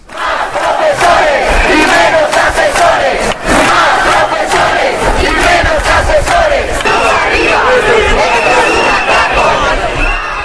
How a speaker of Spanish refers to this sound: Esto es un atraco, manos arriba, se coreaban infinidad de mensajes, pero esto de que más profesores es un poco nuevo, ¿no?